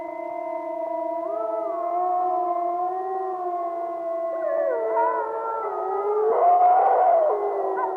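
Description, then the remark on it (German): Several wolves howl together in a sustained chorus, long overlapping tones gliding up and down, growing denser and more layered toward the end, with no talking. “Einst waren Wölfe in ganz Europa verbreitet.”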